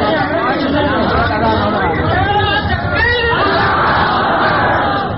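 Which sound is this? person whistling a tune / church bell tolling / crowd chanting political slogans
crowd chanting political slogans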